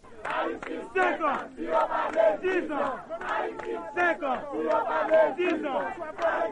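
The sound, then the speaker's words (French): A large crowd of supporters of Mr. Aristide chants loudly in unison in front of the Palace, voices rising and falling in steady rhythmic bursts with overlapping shouts throughout. “Les nous t'ap sorti dans conférence de presse ça dans Palais a, nous te contré à gros foule partisan monsieur Aristide là devant Palais.”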